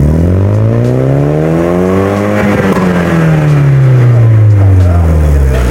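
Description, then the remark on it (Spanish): A 1995 Nissan Silvia 200SX, with 50,000 km, in Ecuador, revs loudly through its exhaust, pitch climbing steadily to a peak, then sliding back down to a low rumble. Continuous, no talking. “Tiene apenas 50 mil kilómetros y hoy vamos a hablar más que del escape de esta maravilla de joya japonesa.”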